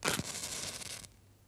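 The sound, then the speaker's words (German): A match is struck: a sharp scratchy rasp, then a bright fizzing hiss as it flares for about a second before dying away, followed by a faint tick. “Das Streichholz? Das Streichholz.”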